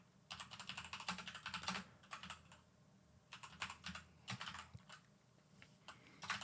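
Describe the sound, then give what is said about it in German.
Rapid keyboard typing in quick bursts of clicky keystrokes, pausing briefly between flurries, fairly quiet, with no one speaking. “Wenn man jetzt noch tippen könnte.”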